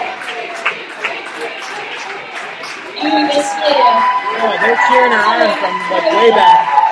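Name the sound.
audience cheering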